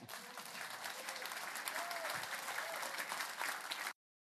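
A crowd claps steadily in a dense, even wash of applause for about four seconds, then the sound cuts off abruptly.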